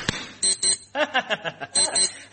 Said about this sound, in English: What's that noise? It's my keyring. My keyring that bleeps so I know where my keys are. Clap your hands again. Listen.